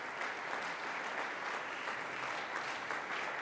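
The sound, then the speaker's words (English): A capacity audience gives a standing ovation in the Fine Arts Center Recital Hall at Northeastern Illinois University after clarinetist Jorge Montilla and pianist Kay Kim perform an Alberto Ginastera work, a dense and sustained wash of clapping from many hands, even in volume throughout, with no voices rising above it. “Standing ovation by this capacity clarinet-loving crowd here in the Fine Arts Center Recital Hall.”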